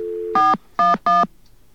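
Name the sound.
touch-tone telephone dialing tones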